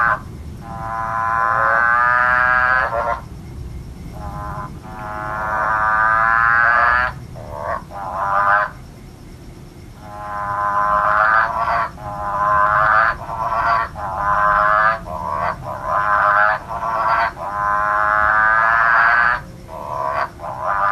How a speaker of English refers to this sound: And that one is the motorbike frog.